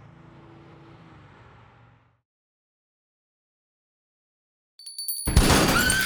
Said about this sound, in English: Wendell Poole blew the glass door out with a shotgun blast. He fired a second time at a car saleswoman who fled.